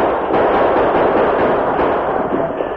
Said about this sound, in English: The inadequate defense of the fort was immediately evident, and soon, protected by constant gunfire from the attacking horde, several braves carrying a large log moved to the heavy gates to ram them open.